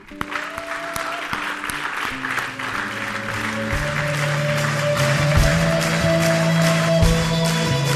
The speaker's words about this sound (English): Thank you for those hands. Let's give them a clap.